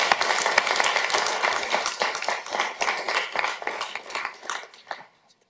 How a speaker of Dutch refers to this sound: Nog een applaus, dames en heren.